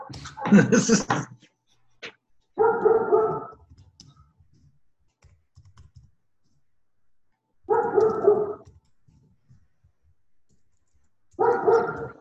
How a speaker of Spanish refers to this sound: ¿Quién tiene el perro? Yo. Pastor alemán.